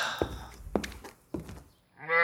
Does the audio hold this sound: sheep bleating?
yes